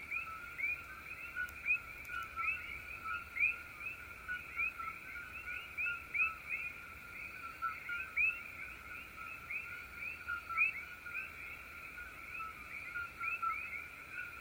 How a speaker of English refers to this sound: Here are the Koki frogs, which are quite activating, which I think of for the third eye.